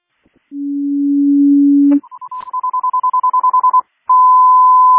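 Crystal Lake Fire Department Station 1 general alarm tones, requested from CCOM: a long, low steady tone, then a rapid string of higher-pitched beeps, a brief pause, and a loud sustained high tone, with no voices.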